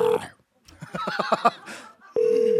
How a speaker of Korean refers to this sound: 전화 받아요. 전화. 전화 안 받으면 계속 제로.